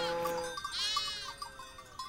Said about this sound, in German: Nach langem Bergaufsteigen kommen endlich die Schafe in Sicht. Dunkelbraune und weiße Wollknäuel kleben am steilen Hang.